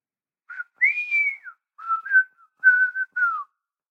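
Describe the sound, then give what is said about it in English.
A person whistles a short melodic tune in clear phrases while slicing carpaccio: a long sustained note, then several gliding and wavering notes with brief pauses between them, no speech. “I whistle the tune from … and keep slicing my carpaccio”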